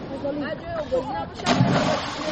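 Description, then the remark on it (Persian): Children's voices call out over a steady watery wash, with a brief splash breaking through midway, as kids swim and splash in a river in Tajikistan at a spot with no signs marking it for swimming. “طور خود شما هم میبینید در این مکان هایی که بچه ها برای آبوزی انتخاب کردند یگان اشاره یا علامت برای آن که در اینجا آبوزی کردند من است گذاشته نشده است.”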